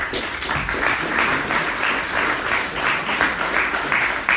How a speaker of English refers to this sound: Let's give a round of applause, shall we?